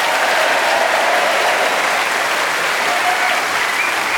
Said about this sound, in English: We're showing appreciation for the value they gave, but now, round of applause, the man who had more points than anybody else, and our winner this week, Clement Freud.